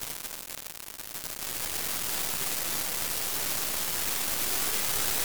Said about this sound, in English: The following data sonification maps 1 week of salinity data before, during, and after the hurricane. The start and end of the storm's passing over the sensor array are indicated in the mix.